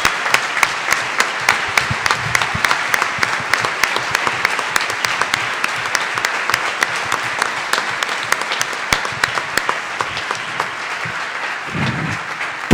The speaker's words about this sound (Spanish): Así que, antes que cualquier cosa y empezar a hablar, quiero que le den un fuertísimo aplauso a Cannabis Medicinal. Son gigantes, son gigantes.